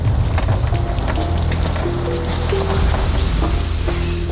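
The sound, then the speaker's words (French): Heavy rain pours down steadily during very heavy thunderstorms, a dense, continuous hiss with crackling drops spattering on a surface, loud throughout, with a faint low tonal hum underneath. “C'est un jour où il y a de très gros orages. Il y a une pluie très forte.”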